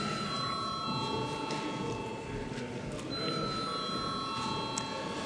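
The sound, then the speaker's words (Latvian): A parliament chamber's vote bell rings steadily, a sustained high electronic tone holding for several seconds and shifting pitch partway through, over a constant murmur of voices. It is rung before deputies vote on the bill amending the Land Amelioration Law in its second, final reading. “Lūdzu atbalstīt likuma projektu kopumā. Paldies, lūdzu zvanu.”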